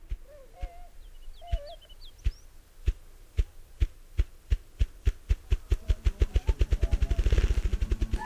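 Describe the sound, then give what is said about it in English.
Deep wing thumps from a male bird start slow and evenly spaced, then speed up into a rapid, loud drumroll of low beats as his wings blur, with faint bird calls chirping in the background early on. “Rapidly accelerates to that flurry of high-speed thumping, and when he's in the middle of it, his wings are completely blurred.”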